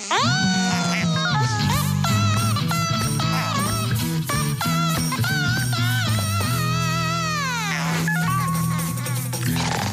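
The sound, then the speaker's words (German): A loud, continuous fly buzzing fills the whole stretch, its pitch swooping up and down in wavering glides, steady without pauses or talking. “Fliege, aber du störst doch die Spinne mit deinem lauten Gesumse.”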